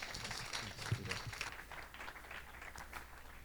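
Church audience applause as a pastor comes up to speak: a steady, dense wash of many hands clapping, fairly soft overall, with a few sharper claps standing out early on and continuing evenly to the end.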